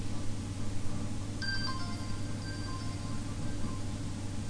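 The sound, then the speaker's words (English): A faint phone incoming-call ringtone on its quietest setting, with a few thin, high electronic tones beginning partway through and repeating softly over a steady low hum, with no voices. “Incoming call.”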